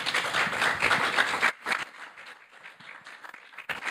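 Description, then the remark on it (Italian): A crowd applauds to welcome two speakers, with dense, steady clapping that thins abruptly after about a second and a half into scattered, fading claps. “quindi fate un applauso e lascio loro la parola.”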